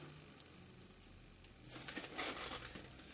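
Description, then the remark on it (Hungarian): A paper page is turned, a crisp rustling and crinkling that starts after a quiet moment and continues for about a second and a half, with no talking. “Na mostan próbálunk lapozni.”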